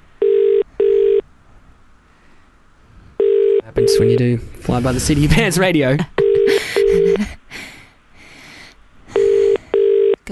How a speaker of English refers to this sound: Come on, pick up the phone, guys.